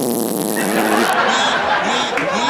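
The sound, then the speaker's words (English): A voice makes a long, buzzy raspberry imitating a fart, sputtering loudly and continuously for a couple of seconds with a wavering, laugh-like pitch, as an impression of President Johnny Bloxon as a fart. “Here's a little impression of Johnny Bloxon if he were a fart.”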